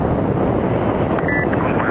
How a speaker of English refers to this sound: Liftoff. Liftoff of the Soyuz rocket transporting Mike Fink, Yuri Lonchakov, and Richard Garriott to their home in space. So there we are.